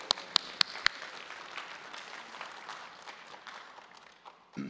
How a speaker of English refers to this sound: Hopefully the next service does a little better clap than that. That was just above PGA, but not quite like World Series.